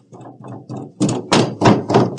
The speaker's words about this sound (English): But the knocking just keeps going. And it keeps getting louder.